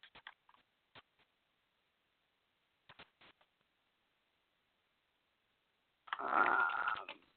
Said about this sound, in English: You hear me typing there, right?